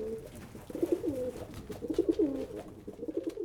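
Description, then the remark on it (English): Soft, throaty pigeon cooing repeats in low, rolling phrases, moderately quiet, with a faint airy background and no talking. “Cher Ami was a famous pigeon.”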